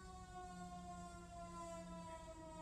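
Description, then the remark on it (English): An emergency vehicle siren holds a steady, buzzing harmonic tone throughout, over a low rumble of traffic, without rising or falling in pitch. No one speaks. “Another siren. Are we done with the sirens now?”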